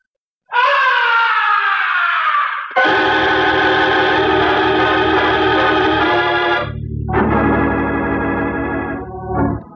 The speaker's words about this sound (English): From way up in the heights of the stage, the opera house was pierced with a blood-curdling scream. That was no ordinary scream. It was the scream of death.